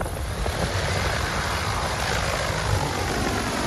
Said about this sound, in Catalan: Doncs sí, el sentiu de fons. Aquest és el DJI Agro T100. Té una capacitat de 100 litres de líquid o sòlid i pot ruixar fins a 40 litres per minut.